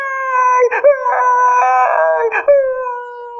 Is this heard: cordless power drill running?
no